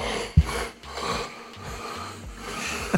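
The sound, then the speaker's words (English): A man asleep in a chair snores in a low, raspy rumble, with rough drawn-out breaths repeating over a steady background hiss. The snoring is fairly quiet, and no one speaks. “This is video that she captured of me snoring on the chair.”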